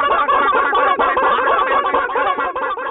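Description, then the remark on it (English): A crowded flock of chickens clucks and squawks all at once in an advertisement for Kalmbach Feeds chicken feed, a dense, continuous jumble of overlapping calls, fairly loud, with no one speaking. “From our family to yours, feed your chickens the way nature intended.”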